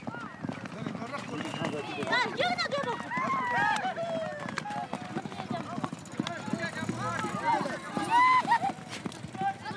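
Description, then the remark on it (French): Rapid hoofbeats of horses galloping in a horse race held at this place for centuries pound steadily through the whole stretch, loud, mixed with a busy outdoor crowd and voices talking over the running. “Il filme la course de chevaux qui se dispute ici depuis des siècles.”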